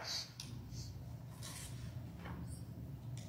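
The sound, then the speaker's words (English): Faint, scratchy pencil strokes on paper come in short irregular bursts over a low steady hum, as several people quietly write lists with pencils at once. “Just want you to write a couple of things down in some sort of list.”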